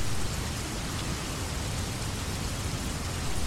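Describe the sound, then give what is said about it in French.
Steady, persistent rain falls without a break, a dense even hiss spread across the whole sound with a low rumble beneath, moderately loud, with no voices. “Dans mon pays, il tombe une pluie permanente. Jamais dévastatrice, mais insistante.”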